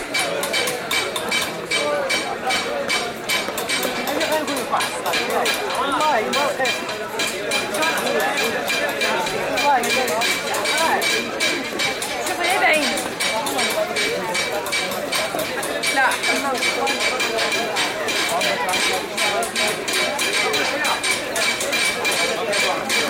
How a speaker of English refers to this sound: In the Place Safarin, the stone chiselers work nearby the men who hammer the designs on brass trays. And sometimes it seems as though the rhythm of one is picked up by another.